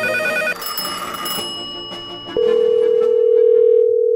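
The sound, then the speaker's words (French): Telephone line tones play as a call is placed to a tanning salon: a short burst of layered electronic chiming, then a loud, steady single-pitched tone holds to the end. No one speaks. “J'ai appelé pour prendre des informations dans un salon de bronzage.”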